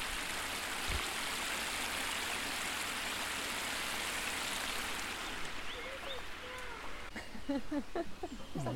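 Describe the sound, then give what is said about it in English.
Water rushes steadily over stone water steps in a stream outside a tea room, still running after much rain, a dense continuous hiss and splash, with a voice briefly speaking over it near the end. “actually, the stream outside the tea room dries up and the water steps can be dry as well.”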